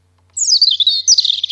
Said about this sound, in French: La mésange